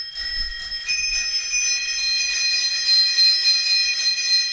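tandem bicycle bells ringing

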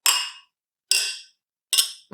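wine glasses clinking

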